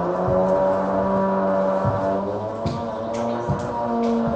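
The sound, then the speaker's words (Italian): A small moped engine runs steadily with a buzzing, harmonic drone, throttle blips and sputters breaking in every second or so as someone test-revs it. No one speaks. “che sta provando il motorino.”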